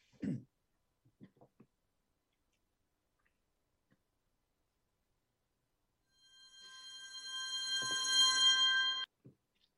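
A single short, close cough-like throat clearing at the very start, followed by a few faint clicks, then a loud, steady, bright tone that swells for about three seconds before cutting off.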